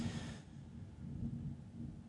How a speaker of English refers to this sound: You hear the thunder?